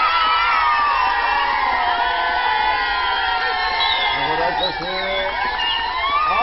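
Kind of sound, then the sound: crowd, children cheering and clapping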